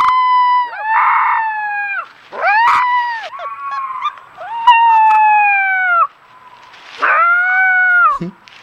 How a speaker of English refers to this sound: Here he is doing his first howls. This is so cute. This is a four-week-old wolf pup learning to howl.